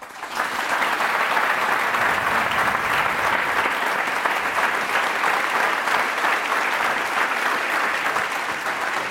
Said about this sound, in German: Ich bitte um Applaus für die Chronistin dieses Podcastes und sage herzlich willkommen beim SWR Podcast Festival,